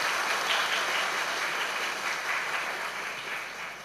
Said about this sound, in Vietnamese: Hãy cho một tràng vỗ tay thật lớn về tinh thần cao quý này.